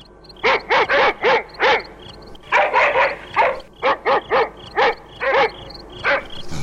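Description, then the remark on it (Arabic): Several guard dogs bark loudly at night in a palace, a rapid, uneven series of about a dozen sharp barks, some overlapping, with no voices present. “وفي الليل جمع كلاب الحراسة في القصر.”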